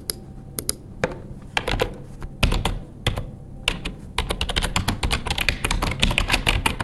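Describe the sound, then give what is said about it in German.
Close-up computer keyboard typing, a rapid series of crisp key clicks, sparse at first with short pauses, then a denser, steadier burst of keystrokes toward the end, heard alone. “Angenommen, ihr podcastet und dann müsst ihr zwischendurch kurz was nachschauen, dann müsst ihr tippen und klicken. Nun, ungefähr so klingt es.”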